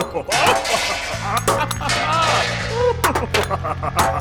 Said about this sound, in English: And they're all just smashing with their goblets and dinnerware at this man in the middle.